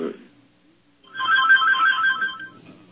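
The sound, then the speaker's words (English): A phone behind the speaker plays a ringtone for about a second and a half, a bright warbling melodic tone at moderate volume, following a brief burst of voice and a short quiet pause. “Speaking of iPhones... Then I got a phone behind me.”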